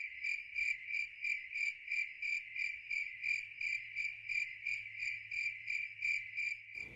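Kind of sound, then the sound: sound effect, cricket chirping sound effect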